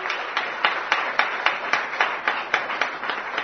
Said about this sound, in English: I think we must definitely applaud also for the hard work and labor which the OD have done. I think a good clap. They deserve.